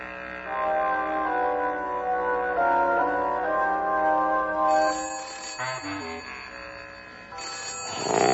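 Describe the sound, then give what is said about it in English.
A telephone rings loudly in the middle of the night, a sustained metallic bell tone that fills several seconds before cutting off amid a brief clatter, with no one speaking. “If you get any bright ideas, maybe you'll ring me. It's got my business and private phone numbers there, any time.”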